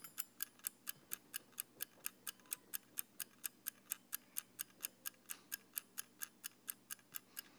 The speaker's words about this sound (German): Der Kurzzeitwecker.